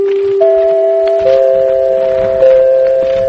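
An NBC broadcast chime: four mellow, bell-like notes struck one after another, each ringing on and blending into a sustained chord, with no voices.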